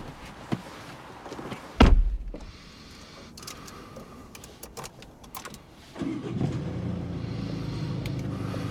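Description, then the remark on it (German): The driver's door of a blue car on a dark street clicks open, followed by a sharp slam near 2 seconds as the driver gets in; small rustles and taps follow, then an engine-like low rumble starts up and holds steady. “An der Fahrertür hält Simon kurz inne. Er steigt ein.”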